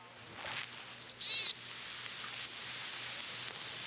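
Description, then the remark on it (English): A boreal chickadee calls once: two quick high notes followed by a longer, wheezy buzz, clear over a faint steady background hum. “Occasionally I hear their call, a pitiful version of the call of a black-capped chickadee.”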